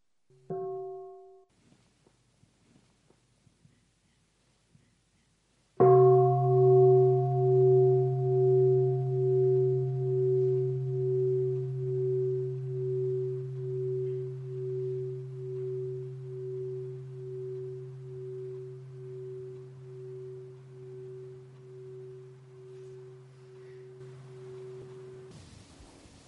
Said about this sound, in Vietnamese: Nghe tiếng chuông một cái á, thì nếu mà mình là người đã có thực tập quen rồi đó, mình đã đi mấy khóa tu rồi, mình đã ở tại trung tâm thực tập nhiều tuần lễ rồi